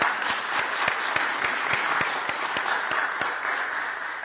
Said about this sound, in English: So give them a big round of applause right now.